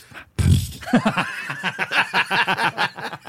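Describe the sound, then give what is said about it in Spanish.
A short, muffled, stifled fart bursts out low, followed right away by a run of breathy, rhythmic snickering and suppressed laughter. “Es el pinche pedo ahogado, ¿no?”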